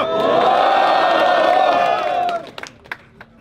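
A crowd at a rap battle cheers and shouts loudly in a sustained roar for over two seconds as the third round is announced, then it cuts off abruptly, leaving a few scattered claps and thuds.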